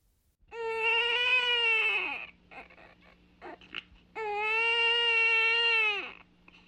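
A baby boy who has been crying for hours wails in two long, strained cries separated by a brief gasping pause, loud, with a faint steady hum underneath and no talking.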